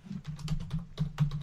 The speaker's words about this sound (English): Uh-oh, he's typing. I am.